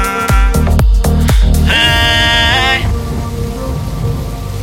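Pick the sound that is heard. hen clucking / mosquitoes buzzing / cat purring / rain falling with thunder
rain falling with thunder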